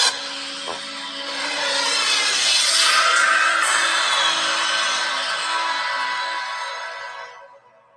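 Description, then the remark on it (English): A swirly, whooshing sound effect: a broad airy wash swells in over a second or so, churns steadily with faint sustained tones beneath, then fades away near the end. No voices. “No, there was no applause on that one. It's just the swirly, swirly sound.”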